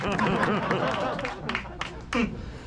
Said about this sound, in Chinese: Yeah, 让我们再一次掌声谢谢